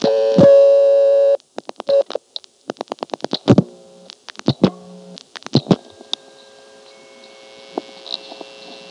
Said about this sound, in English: On this next call, I deliberately dialed into a connector group and just sat there to record those tones.